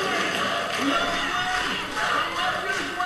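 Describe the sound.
A large crowd chants a name together, a thick, loud wash of many voices that keeps going steadily for a few seconds.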